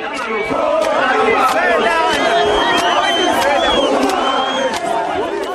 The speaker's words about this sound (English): The men scream that foreigners are stealing their jobs.